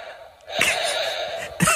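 A child snoring: one long, raspy breath drawn in over about a second, then the start of another, with no one talking.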